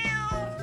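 A cat meows in a short, clear burst, close and fairly loud, with a second quick vocal note after a brief break. No one speaks.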